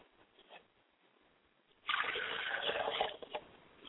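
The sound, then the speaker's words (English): After a quiet moment, water pours steadily into a glass as a libation for about a second, a splashy rush that cuts off and leaves a few faint trickles behind. “I set a glass of water for my mother's spirit, and I say, Ashe.”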